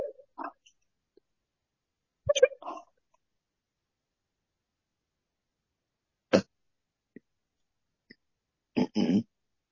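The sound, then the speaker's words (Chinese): Several short, abrupt burps from a person being prayed over for healing break a quiet background at irregular intervals, moderately loud, with a quick pair of gulping belches near the end. “打嗝就打，打出来。”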